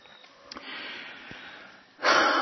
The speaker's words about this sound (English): So by practicing connected or continuous breathing, you're merging the inhale and the exhale, and it becomes one thing.